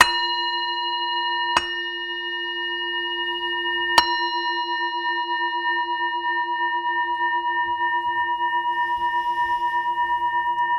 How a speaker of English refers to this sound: Traditionally, the practice actually is done by ringing a bell, and in the ringing of the bell to open the heart, to just in that sound of the bell to create a kind of openness, a space.